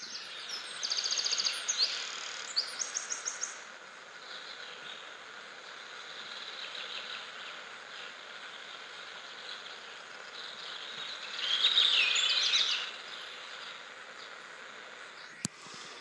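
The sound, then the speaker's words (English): A hotel bedside clock radio in Hillsborough, Oregon plays a steady, hissy loop of night insect and cricket chirping with a few high bird-like twitters, swelling briefly partway through. A sharp click sounds near the end. “So this is the sound from the little bedside clock radio thing in the hotel here in Hillsborough, Oregon.”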